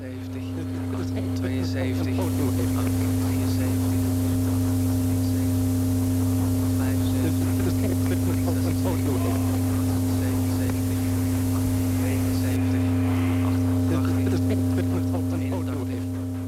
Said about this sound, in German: Das Brummen, Knacken und Rauschen, Geräusche, die im Radioalltag möglichst vermieden werden, in den Sendungen von Jupiter Larsen sind sie Absicht.